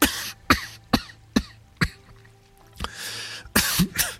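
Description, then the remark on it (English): A man has a loud fit of wet coughing: five sharp hacks in quick, even succession, a brief raspy pause, then several more heavy, congested coughs. No one speaks. “Another wet cough forced him to catch his breath.”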